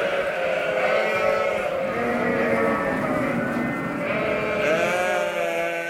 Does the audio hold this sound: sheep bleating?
yes